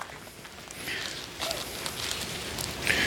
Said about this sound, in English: Deep in the New Testament, yeah, I hear a few pages turning. That's good. Turn with me. We love you to bring your Bibles, to open them up, to look at it, to write things down.